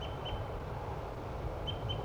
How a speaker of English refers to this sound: This could be a wild bird. Definitely a male bird. Either the decoy or the wild one.